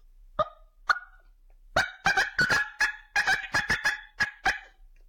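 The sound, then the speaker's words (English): A caller imitates an excited hen turkey cutting to fire up a male turkey: two sharp, isolated clucks, then a fast, irregular burst of loud staccato clucks and yelps, with nothing else in the background. “And if he doesn't respond to that, I'll try to fire him up a little more with a little cut, just kind of like a big excitement, you know, of a hen trying to get all excited and saying, hey, I'm here.”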